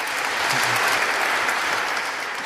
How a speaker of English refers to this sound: So if you're part of this great coalition we have, StopWar.ca, if you've been to any of the rallies we've had over the last 6-7 years, give yourselves a round of applause now, please.